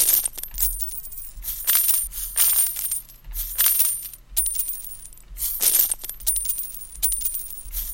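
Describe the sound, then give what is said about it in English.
Bright, jingly video game coin pickup effects, played from a game's sound menu by repeatedly pressing enter, play over and over, each a short sparkling burst following closely on the last, fairly loud with no talking. “Pick up coin. It's when you grab coins.”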